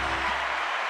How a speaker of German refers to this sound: Der Applaus für die 20. Folge. Jawohl.